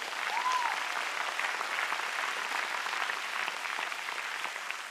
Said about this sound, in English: Shortly after that, yeah, give Jesus a hand clap.